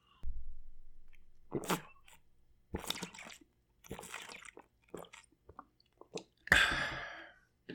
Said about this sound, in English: Excuse me while I take a sip of my Grain Belt Northeast.